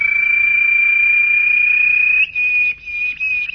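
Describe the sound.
Actor Mića Tatić imitates a small bird's chirping with a high, steady trilling whistle: one long unbroken note, then two or three shorter bursts with brief gaps, with no talking.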